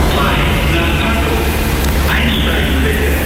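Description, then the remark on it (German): A U2 subway train rumbles loudly and steadily into Gleisdreieck U-Bahn station in Berlin, with an electric motor whine rising partway through over a dense wash of platform noise. “Ja, die U2, die rollt hier im 5-Minuten-Takt an aus beiden Richtungen.”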